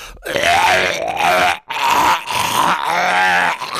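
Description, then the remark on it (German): A voice imitates the loud retching and gagging a man made during a car ride, in three strained, guttural bursts, harsh and throaty, with brief gaps between them and no words spoken. “Und allein als er dieses Geräusch gemacht hat, ne, musste ich fast auch würgen.”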